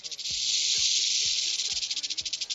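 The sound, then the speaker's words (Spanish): A half-metre-long rattlesnake found inside an oven rattles loudly and steadily, a dry continuous hiss that breaks into a pulsing rhythm near the end, with faint low thumps underneath. “Una serpiente de cascabel.”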